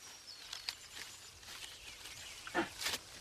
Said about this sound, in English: Monkeys in a tree. Here, white-headed langurs are taking their last meal of the day.